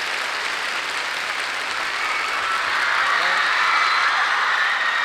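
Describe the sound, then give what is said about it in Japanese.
A concert audience applauds the four Japanese musicians who took part in the performance, a steady, dense wash of clapping that holds at a fairly loud level for the whole stretch and swells slightly toward the end, with no voices standing out. “そして、この公演に参加してくれた日本の4人のミュージシャンに、拍手。”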